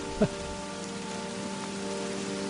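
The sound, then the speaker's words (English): A recording of steady rain, left in place for visitors to hear, plays in a continuous, even hiss that fills the whole clip, with one brief louder splash near the start and a faint low hum beneath. “And they recorded the rain and left it here for us.”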